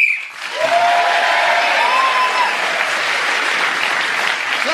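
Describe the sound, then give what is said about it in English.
A single whistle blast of about two seconds, blown to end a round, rises over loud, sustained applause from a crowd, which keeps going well after the whistle stops. “Speaking as a whistle win, gain that extra point.”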